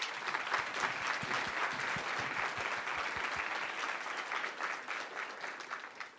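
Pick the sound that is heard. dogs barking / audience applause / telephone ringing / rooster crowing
audience applause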